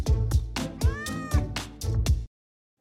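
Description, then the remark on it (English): Cats meow repeatedly in a rhythmic, sing-song run of about seven clear meows with harmonic pitch slides, then silence, in an advertisement for Meow Mix. No talking. “Meow Mix, the only one cats ask for by name.”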